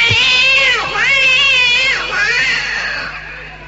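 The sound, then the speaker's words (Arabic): A cat dying in pain beside a dish of food yowls: one long, wavering, high-pitched cry that dips and rises twice, loud and strained, then trails off at the end with no talking. “بيبص لقى الصنيع ناقص نصه، بيبص جنب الصنيع لقى القطه بتتألم بتموت.”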